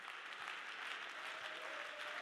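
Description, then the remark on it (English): An audience at a church service clapping their hands to God in a steady, dense wash of applause, many overlapping claps forming a continuous bright crackle that holds level throughout. “Clap your hands if you ain't giving up on your prayers.”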